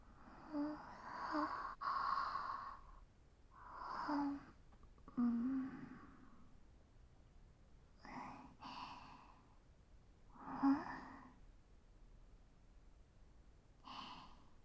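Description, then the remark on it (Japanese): A run of breathy yawning sounds from the commander, about seven drawn-out voiced exhalations spaced a second or two apart, with quiet gaps and no talking. “指揮官もあくびです。”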